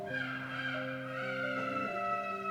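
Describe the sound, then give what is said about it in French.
A mechanical clockwork rooster automaton, one of the Schwillier automata, sits on the left turret of a clock. As the fourth apostle passes, it beats its wings three times and crows for the first time with a reedy, organ-like tone, holding steady notes that step between a few pitches over about two and a half seconds. No one speaks. “Au passage du quatrième apôtre, le coq, placé sur la tourelle de gauche, bat 3 fois des ailes et chante pour la première fois.”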